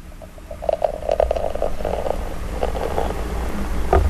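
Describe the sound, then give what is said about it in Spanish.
Beer being poured into a glass right by a microphone: a steady, gurgling stream with uneven bubbly glugs and a fizzy wash lasting about four seconds, moderately loud, with no talking. “Vamos a servir, voy a servirlo cerca del micrófono para que se escuche también.”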